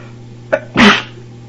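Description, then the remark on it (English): A single loud sneeze from an allergy attack in a cinema: a short sharp intake followed by an explosive burst, set against a faint steady hum, with no talking. “that means probably everybody can hear me sneezing.”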